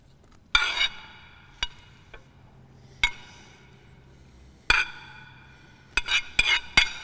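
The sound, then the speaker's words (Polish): Metal clinks and scrapes of a utensil against a pan as half of the shrimp and half of the partly raw chicken are stirred into the sauce, about eight irregular hits, clustering near the end, with no talking. “Połowę krewetek do sosu. Połowę tego na wpół surowego kurczaka do sosu.”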